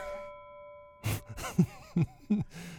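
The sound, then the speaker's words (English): A single boxing-match bell rings out and hangs as a steady fading tone, then a few short, loud voiced bursts follow in quick succession. “And bell sound.”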